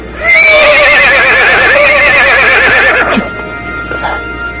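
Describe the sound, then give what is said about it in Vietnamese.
A war horse lets out a loud whinny with a wavering, trembling pitch lasting about three seconds, trailing off into quieter snorting and background noise. “Ngựa đẹp quá, đúng là một con ngựa chiến hiếm có.”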